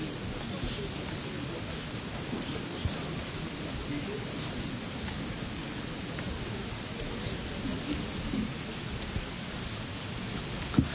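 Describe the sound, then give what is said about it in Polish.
Steady spring rain falls in Drohiczyn throughout, a continuous even hiss with occasional louder drops, while faint indistinct voices murmur in the background. “Już pada deszcz, ale po takim deszczu wiosną to wszystko rośnie i my urośniemy.”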